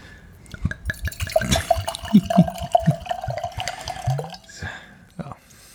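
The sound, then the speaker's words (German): Red wine drips and trickles into a glass in a series of small, irregular splashes, with a faint ringing tone and brief clinks, under scattered background voices. “Oh, aber da, es tröpfelt.”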